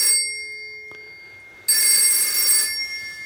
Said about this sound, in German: Ihr seht, das ist ein Telefon.